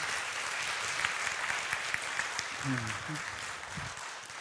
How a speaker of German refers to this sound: Und ihr dürft ihr einfach nochmal einen Applaus geben.